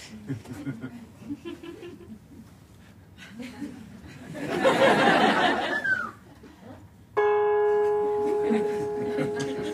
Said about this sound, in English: Ringing the gong. Ringing the gong.